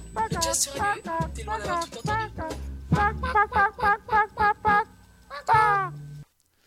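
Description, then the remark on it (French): A chicken clucks, with a quick run of evenly spaced, nasal clucks in the middle and a louder drawn-out squawk near the end before it goes quiet. “Et maintenant, on change de pianiste et on met un petit poulet.”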